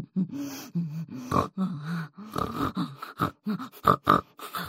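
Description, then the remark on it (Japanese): A human voice imitates a pig, producing a rapid, irregular run of nasal snorts, grunts and oinks, fairly loud, with a few sharper snorts near the end. “豚声が止まりません。”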